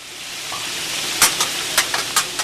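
Food sizzles on a hot grill with a steady, dense hiss, punctuated by several sharper crackles and pops spaced irregularly throughout, close and moderately loud, with no talking.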